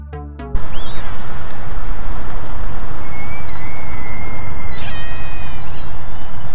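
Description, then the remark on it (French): Slowed-down orca whistles: thin, high tones that glide and waver up and down in several overlapping lines, set against a constant loud underwater hiss, after a brief clicking burst at the start. “Et oui, ce sont bien des sifflements d'orque.”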